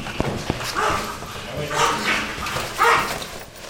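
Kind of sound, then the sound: animal, dog barking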